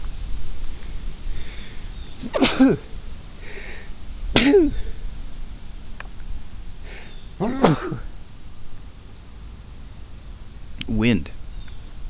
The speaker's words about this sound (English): Wind is kicking up sneezy stuff, and it's putting it in my nose, and it's making me sneeze. That's cool. I like sneezing. Sneezing is one of my favorite things to do. And I'm great at it.